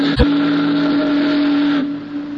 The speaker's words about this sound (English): The big boat's doleful whistle and the rhythmic churning of her huge stern wheel were the only audible sounds.